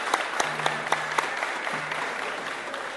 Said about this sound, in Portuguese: Ô pessoal, é o seguinte, ó, o compositor aqui só ganha palmas, né? E ninguém ganha pra tocar. Eu então, e ela, a gente acredita que palmas também é um ato de cidadania, por favor.